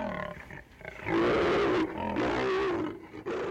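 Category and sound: animal, lioness roaring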